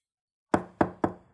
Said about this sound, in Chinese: 屋子里响起了敲门声。